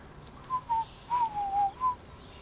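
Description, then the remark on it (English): Soft, clear whistling calls from three birds: a handful of short notes in two loose bursts, some gliding slightly, against a quiet background hiss with no talking. “There are three birds, and they're over here.”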